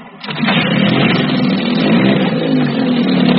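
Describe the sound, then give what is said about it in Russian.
A boat motor on choppy water kicks into life after a brief moment and runs loud and steady, a rough, continuous drone with no voices, then stalls soon after starting. “Мотор запустился сразу, но тут же и заглох.”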